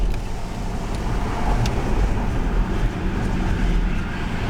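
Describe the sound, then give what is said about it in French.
The air conditioning of a five-seat electric car runs with a steady, even whoosh over a low, continuous rumble, holding at a constant level throughout with no voices. “Ah non, vous n'avez pas de bruit, ce n'est le bruit de la clim. Il n'y a rien d'autre.”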